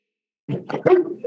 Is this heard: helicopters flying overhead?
no